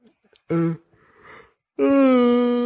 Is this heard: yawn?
yes